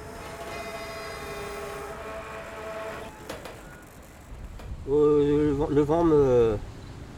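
A freight train passes with a steady, droning engine hum and rumble, followed by a louder, wavering horn-like tone a few seconds later before fading, with wind noise throughout.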